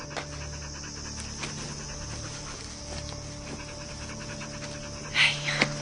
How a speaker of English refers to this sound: The panting dog watches her walk away.